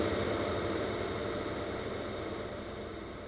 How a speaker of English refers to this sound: This is called infinite plate, using the maximum 25-second decay time on the reverb.